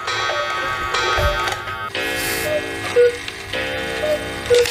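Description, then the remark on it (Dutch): A very expensive cuckoo clock sounds its two-note cuckoo call a couple of times, the short hooting tones rising out of a dense, busy mechanical ticking and whirring background. “Kunt u even kijken welke koekoek het is? Luister even mee.”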